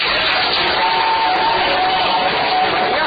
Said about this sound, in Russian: Ну что ж, от игровой геометрии до бесконечности технология состоялась, аплодисменты вам.